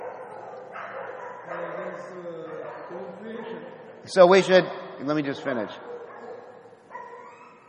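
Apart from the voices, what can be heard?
dogs barking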